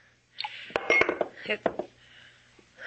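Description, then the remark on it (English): Several sharp glassy clinks ring out over about a second, mixed with a soft splashing wash as water is poured from a pitcher into a glass, then a quieter lull. “It's just that I'm not used to drinking water from a glass.”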